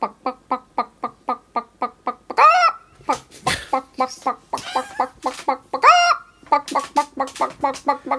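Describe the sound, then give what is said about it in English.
Steady, rapid clucking from a chicken repeats in a clear rhythm, broken twice by a louder, rising squawk before the quick clucks carry on. “what did she put on her passport under career? Chicken translator. Chicken expert. Chickenologist.”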